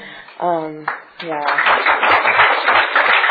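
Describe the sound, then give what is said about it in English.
A couple of raised voices ring out, then an audience at an Overeaters Anonymous meeting breaks into dense, steady clapping after a member shares maintaining about a 140 to 150 pound weight loss; loud and continuous with a crackly texture to the end. “And what I'd like to say about that is that you guys are really clapping for yourselves, and you're clapping for a power in the universe that is greater than me, because that's what I found in these rooms”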